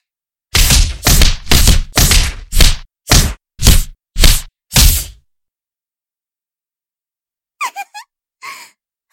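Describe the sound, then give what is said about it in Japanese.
A quick, steady flurry of about nine loud punch impacts lands one after another on the listener, followed by a pause and a few short, squeaky gasping sounds. “急にパンチを浴びせられてどうでしたか。”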